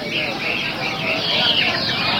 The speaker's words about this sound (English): They come with their songsters and they hang the cages high on hooks above these tables, and as you can hear, the birds trill their little hearts out.